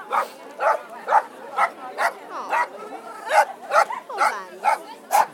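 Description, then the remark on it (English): Small dogs yap in a quick, steady run of about a dozen sharp, high barks, each short and fairly loud, with faint whiny sounds between them. “It's all, always little dogs.”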